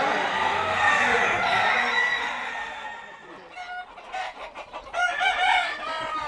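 A fighting rooster clucks and crows at a cockfight that ended in a draw, its harsh, harmonic calls rising and falling in several bursts over a dense, noisy background with faint voices.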